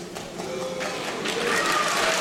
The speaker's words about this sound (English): Listen to how divided the crowd gets too, the boos. This is like supposed to be the center of liberalism, liberal Hollywood elites, and a lot of them are like, oh, what is this uppity person talking about? Oh, boo, rabble, rabble.